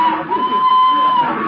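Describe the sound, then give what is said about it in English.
A dense, loud crowd of voices murmuring and calling out together at a train station, with a steady high-pitched whistle-like tone sustained through nearly the whole moment. “Use the crowd for cover.”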